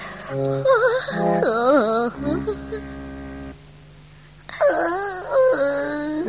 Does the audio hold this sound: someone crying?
yes